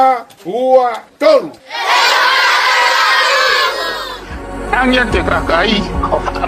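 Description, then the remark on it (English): From a Facebook election video: a few high calls ring out, then a crowd of schoolchildren screams together in a loud, sustained burst for about two seconds. They are screaming out the name of a candidate who donated food to them. Then they break into scattered, excited shouting over a low rumble. “In this Facebook video, a candidate donates food to school children, to which they respond by screaming out his name.”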